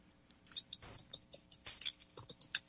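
Keyboard typing: a quick, irregular run of sharp, bright clicks and taps, about a dozen keystrokes with uneven gaps between them, fairly quiet, with no voices.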